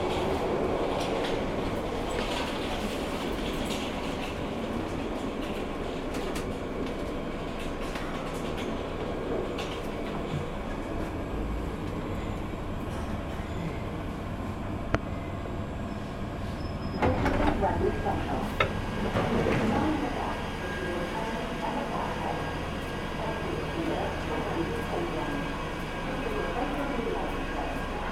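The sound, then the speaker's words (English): Steady rumble of a Bakerloo line underground train standing at platform 1 of Wembley Central station, with rattling carriage noise and a louder burst of clattering and squeal partway through, as the sound of the train fills the space. “The train now standing at platform 1 is the 2222 Bakerloo line.”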